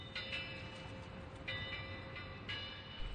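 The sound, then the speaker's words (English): A train rumbles steadily along the rails as it comes toward a bridge it is to cross, with high metallic squeals and rhythmic bursts of wheel noise recurring every second or so, fairly loud, with no voices. “A train was coming.”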